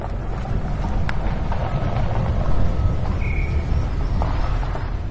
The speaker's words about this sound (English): Gusts of wind carry the noise of excavators down from a flattened, bare, reddish-brown mountain that rises out of the jungle some 3 kilometers away. The mountain top has become a gigantic mine that is slowly being excavated, terrace by terrace.